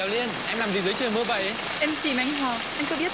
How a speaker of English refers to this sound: A couple is caught in the rain.